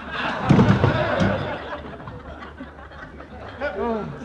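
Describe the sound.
A single heavy punch lands with a loud thud and knocks a man out, followed by a brief scuffle and a body falling, then a voice groans or reacts faintly afterward.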